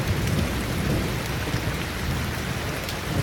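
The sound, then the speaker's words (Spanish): Steady rain drums on a roof, a dense constant patter with a low rumble underneath. No voices, just the continuous wash of rainfall. “El sonido de la lluvia que golpea el techo mientras uno está acostadito en su cama.”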